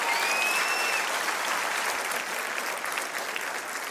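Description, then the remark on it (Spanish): A church audience applauds Jesus during a sermon in a steady, dense wash of clapping that holds at full strength for about four seconds, with a faint whistle-like tone briefly riding on top near the start. “Vamos, dale un aplauso a Jesús.”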